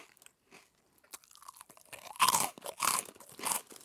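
Close, crunchy chewing of a crisp snack, with a few soft bites at first building into loud, irregular crunches that repeat over several seconds. No talking.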